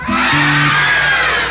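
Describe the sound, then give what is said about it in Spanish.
Loud, continuous screaming from many voices at once, a dense crowd-like wall of shrieks lasting a second and a half, with a brief low tone underneath at the start. “Me encontré con una casa abandonada. Se oían gritos.”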